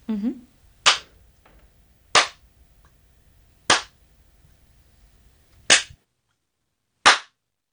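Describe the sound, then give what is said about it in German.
A recorded sample of one person's hand clapping: five sharp, crisp claps at uneven intervals, each a loud, bright snap that ends abruptly, with long quiet gaps between them. A brief low voice sounds at the very start. “Ich habe mir unsere Klatscher alle angehört.”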